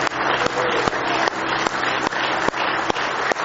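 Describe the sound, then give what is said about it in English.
An audience claps steadily and loudly in praise of the Lord during a morning service, a dense wash of many hands applauding together with a few sharper accented claps landing roughly every half second, with no voices. “Give him one more hand clap of praise this morning if you love him.”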